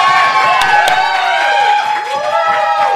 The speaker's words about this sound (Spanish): Aplauso, el aplauso para Chavo del Toro real. Sin barba. ¡Bravo, bravo, bravo, bravo! Sin barba. El aplauso para Chavo del Toro más real.